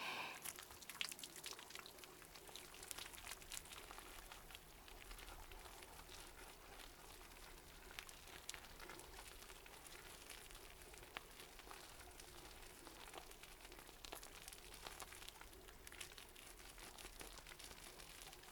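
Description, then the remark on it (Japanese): Soft wet crackling and squishing as shampoo is worked into a foamy lather, a steady fizzy texture with faint popping bubbles that carries on without pause and no voices. “泡立てていきますね。”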